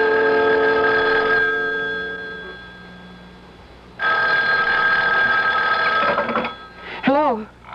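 A telephone bell rings loudly in two long, steady bursts separated by a pause of about a second and a half, followed by a short, wavering pitched sound at the end.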